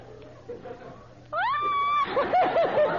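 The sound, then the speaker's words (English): A person imitates an eagle's scream with a single loud, shrill cry that rises and holds for under a second, then breaks into a few bursts of laughter over faint room noise. “All right, now, eagles scream.”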